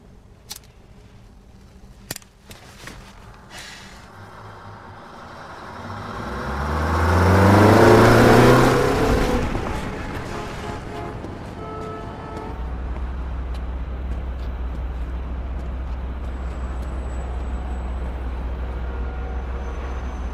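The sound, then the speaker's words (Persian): A car engine heard from inside the vehicle revs up and swells loudly, then eases back into a steady, low droning hum. A few faint clicks come early on, and no one speaks. “لطفا تو ماشین من سیگار نکش، خواهش میکنم.”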